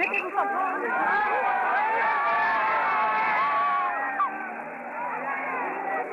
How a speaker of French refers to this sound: La foule se disperse après avoir hué une dernière fois.